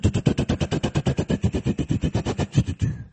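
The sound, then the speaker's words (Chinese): A voice imitates an airplane engine with a loud, rapid, steady throbbing drone, about eight pulses a second, sustained for around three seconds before trailing off. “这是 飞机响， 飞机扔到这儿来了。”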